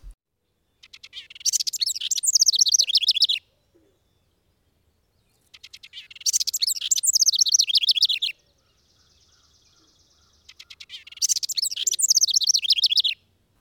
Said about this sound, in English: House wren.